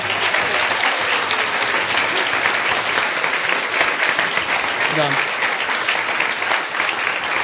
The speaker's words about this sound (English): Thank you. Come on, give them another clap.